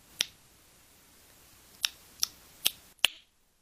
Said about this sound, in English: Those are sounds from Daniel Kish, a blind man, using sound to see the world around him. Hearing echoes off of solid surfaces, he can image his surroundings like a human bat.